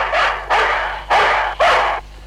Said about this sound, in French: Alors voici un joujou qui parle, comme les animaux de la ferme. Le chien fait.